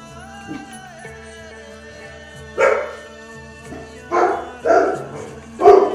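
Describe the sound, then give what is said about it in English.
A dog barks four times in separate, loud bursts, the first alone and the last three closer together, over a steady background of soft sustained music. “On that note, I'm going to invite us all to make a little sound and then follow the dog's lead.”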